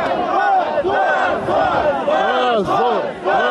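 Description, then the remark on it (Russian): A large crowd of workers boos and shouts in unison in disapproval after Lukashenko declares there will be no new elections, a loud sustained roar of many voices with overlapping jeering cries rising and falling throughout. “Рабочие встретили это неодобрительными возгласами.”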